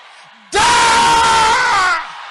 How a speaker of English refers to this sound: Inherited brain problem. Don't joke with that prayer. Can I hear you shouting it louder?